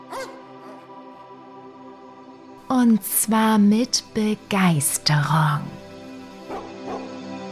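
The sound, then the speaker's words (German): Several dogs, small and large, puppies and older ones, bark and yip in a quick, excited cluster of sharp, loud calls while running over mossy hills, over a steady background hum, with a man's voice speaking briefly. “Es sind Hunde, kleine und große, Welpen und ältere, die fröhlich über moosbewachsene Hügel laufen oder durch das frische Gras großflächiger Wiesen toben.”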